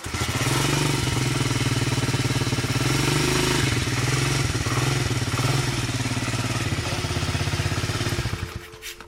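A small moped engine runs loudly for several seconds with a steady, buzzing rattle, then cuts off abruptly near the end.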